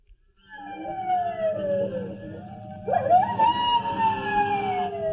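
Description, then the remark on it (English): A coyote yowls in long, wavering howls under a full moon, one sliding down and then a second rising sharply before trailing off, carrying clearly over a steady low background rumble with no talking. “I wish that coyote quit yowling.”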